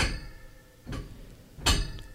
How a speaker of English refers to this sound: Can you hear that on the mic? I don't know, but there's a large banging noise, like clanging metal, that seems to be going on outside. It sounds like something's hitting the window outside of our studio with like a metal bar.